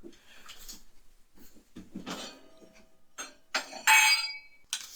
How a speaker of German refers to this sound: Aber ich würde mir jetzt gerade ein zweites Glas holen. Sekunde.